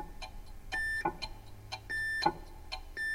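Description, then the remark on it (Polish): Steady, evenly spaced ticks of a chronometer used to transmit a time signal, with short, clear electronic beeps on a single tone from a radio signal sent with a Morse key in rhythm with the ticks. Fairly quiet, and no one speaks. “I cały eksperyment polega na tym, aby do tego cygania dostosować rytm nadawania sygnału radiowego za pomocą klucza alfabetu Morsa.”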